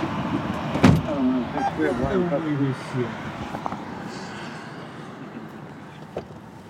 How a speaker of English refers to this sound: Now he's getting in the car. It was the first time all day that someone had been in the back seat of the car.